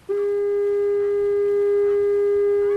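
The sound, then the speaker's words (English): A steady blast from the new electronic foghorn at East Brother Island, a fire-hydrant-sized horn powered by a small solar panel and 12-volt battery, sounds alone: a loud, flat tone with bright harmonics that starts abruptly and holds without wavering for nearly three seconds. “That's the new horn at East Brother Island, which is a lot cheaper to maintain.”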